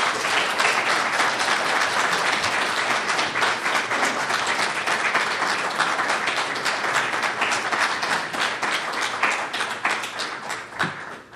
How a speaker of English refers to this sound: So a round of applause for …, please.